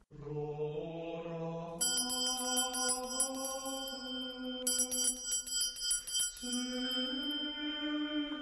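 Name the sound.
church bell ringing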